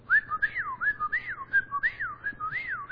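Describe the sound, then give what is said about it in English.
A person whistles an imitation of a whippoorwill's call, repeating a swooping, rising-and-falling phrase about four times in a steady, rapid rhythm, clear and unaccompanied by talk. “So I like to think of a whippoorwill.”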